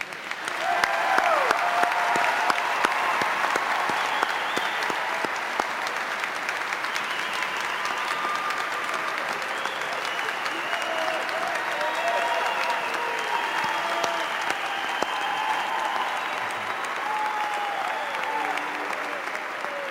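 Sustained applause from a large audience for the graduates-to-be at a Cornell graduation ceremony, a dense steady clatter of many hands clapping for the full length, with a few scattered cheers and voices mixed in.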